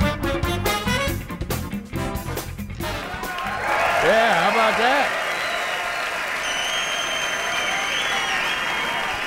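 A burst of music cuts off and a concert audience at a Jazz at Lincoln Center benefit concert for cancer research breaks into loud, sustained applause, with whoops and cheers rising over the dense clapping and continuing steadily to the end.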